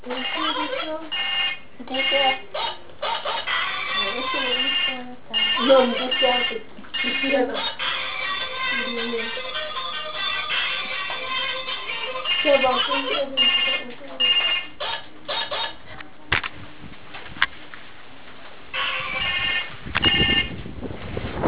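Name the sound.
phone ringtone ringing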